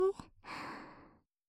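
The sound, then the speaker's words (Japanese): A slow, airy, ticklish breath blown into the ear, a soft breathy exhale lasting under a second after a brief voiced catch, then trailing off into silence. “くすぐったい吐息、じっくりと吹き込んでいきますね。”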